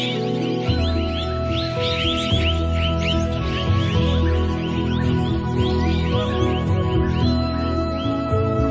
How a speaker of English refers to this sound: Tropical rainforests are home to many kinds of colourful birds. The red-breasted parakeets.